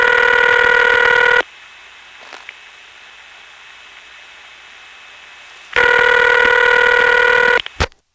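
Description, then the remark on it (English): A gurgly, buzzing ring from a telephone in a telephone switch room, unlike the ring of normal phones, sounds in two loud bursts separated by about four seconds of near silence, with a brief click at the end. “This is a telephone in the switch room, which has a gurgly ring compared to normal phones.”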